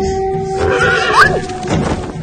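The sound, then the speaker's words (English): A horse gives a loud whinny, its shrill cry rising and wavering before trailing off, with a low rumble of movement underneath and no talking. “Thomasin falls from the horse.”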